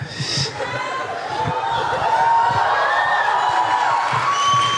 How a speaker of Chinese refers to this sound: 感谢大家的热情掌声，谢谢。我感受到了你们的热情。